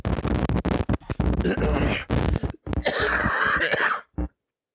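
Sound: cough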